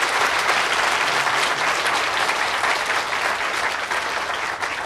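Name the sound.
audience applauding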